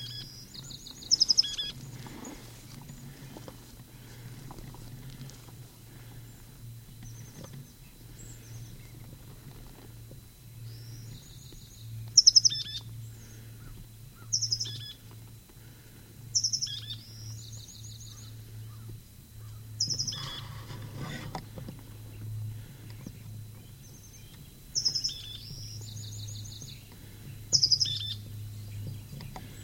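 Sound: bird calling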